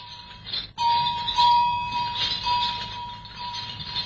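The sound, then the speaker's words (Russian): A camel bell rings out with a sharp strike, its clear metallic tone lingering and slowly fading, after a brief softer jangle at the start. No voices. “Колокольчик верблюда. Тысячелетия звучит он в пустынях Сахары и Руб-эль-Хали.”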